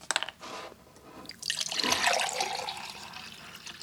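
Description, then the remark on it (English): Water glugs and splashes as a man opens and pours from a 5-gallon drinking water jug, starting with a few clicks and handling noises before a steady pour builds for a couple of seconds. “opens and pours from one of the 2 5-gallon drinking water jugs he fills every week at a grocery store 20 miles away in Green Bay.”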